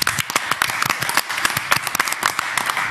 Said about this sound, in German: Komm, ich spiel mal keinen Applaus, wir machen mal einen Live-Applaus.